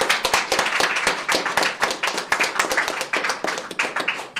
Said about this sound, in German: Allen einen Applaus bitte an alle, die teilgenommen haben.